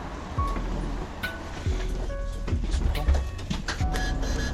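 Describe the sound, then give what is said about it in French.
A bus arrives and rumbles past, its deep, steady engine drone filling the street for several seconds, with faint tonal whines and scattered clicks riding over the heavy low-end roar and some background voices. “Ah bah venez, il y a le bus qui arrive.”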